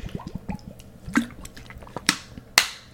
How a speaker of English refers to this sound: And let me take my water right here because I'm getting parched as I'm speaking.